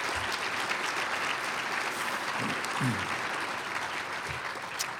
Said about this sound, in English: Let's give them all a round of applause, if you would.